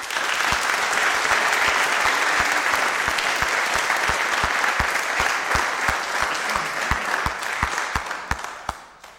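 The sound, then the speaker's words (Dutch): A large audience turns around and applauds the people seated there who made the event possible, a dense wash of clapping with sharper individual claps poking through, sustained for several seconds before thinning out at the end. “En daarvoor zou ik heel graag een applaus willen.”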